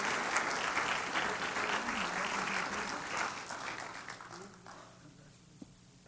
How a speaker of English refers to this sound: And let's just clap for them today as they've made their profession.